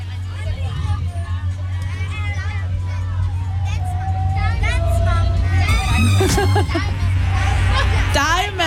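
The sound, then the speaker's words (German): A steady low engine rumble fills the background while many young voices of girls chatter, shout and squeal over one another, lively, inside a moving bus full of children. “Ganz viel feministische Girl Power hier bei uns im Bus.”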